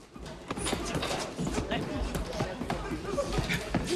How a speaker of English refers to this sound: Tommy Gunn walks away, punching a bag with frustration on his way out.